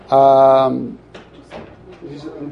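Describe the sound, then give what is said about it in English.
A door swings open with a loud, drawn-out creak lasting about half a second, followed by softer muffled voices and light shuffling noises. “Let's leave the door open.”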